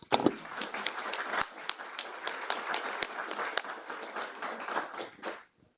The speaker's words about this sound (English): So I would actually ask you to please join me in this celebration of you founding fathers and mothers of these systems in a warm applause. I think you really deserve it. So here come the applause.